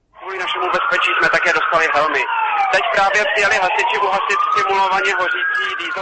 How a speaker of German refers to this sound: Abermals heulen die Sirenen, aufgeregte Reporter berichten live vor Ort. Diesmal handelt es sich jedoch nicht um einen Film, sondern um die Übung SONA, also Zone 2008.